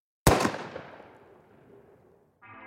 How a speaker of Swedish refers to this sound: Innan paret hinner reagera hörs ett ekande ljud. Ett pistolskott.